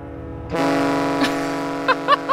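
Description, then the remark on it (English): The horn of the Polarstern, a big ship, blares as it leaves the dock in Norway: one loud, steady, sustained blast with a rich harmonic tone, holding without a break while a few brief sharp noises pop over it near the end. “this is what it sounded like when the Polar Stern left the dock. Yeah, that tracks for a big boat.”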